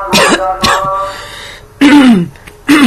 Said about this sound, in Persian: پی رو میزنم، من وسطش یه سرفه میکنم که بخوایم اون سرفه رو کات کنیم با هم.